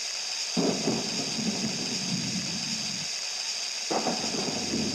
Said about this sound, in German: Hört mal da. Ah, ich glaube, da kommt ein Gewitter.